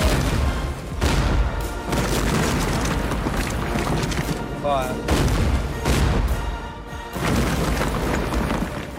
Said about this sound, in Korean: 이어 영국 해군은 군함에 있는 대포로 요새를 파괴한다.